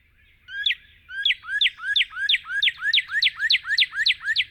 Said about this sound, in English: One of the most well-known bird sounds of eastern yards and gardens is the bright whistled song of the northern cardinal.